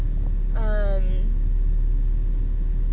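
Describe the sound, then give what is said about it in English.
A steady low rumble of a car driving fairly fast along the road and braking hard to change lanes, heard from inside the cabin, with a short tonal sound rising briefly over it near the start. “Sorry, I was driving kind of fast and I needed a break kind of hard.”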